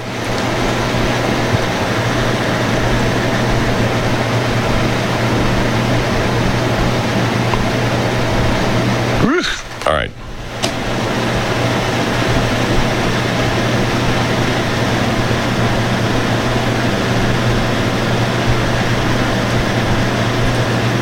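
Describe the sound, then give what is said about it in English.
A loud, steady roar of helicopter engine and rotor noise fills the whole stretch with a low droning hum, briefly dipping for a moment midway before resuming at full strength. No one speaks. “Now, that's the best thing to do, is to freak the guy out with the fucking helicopter, you fuck.”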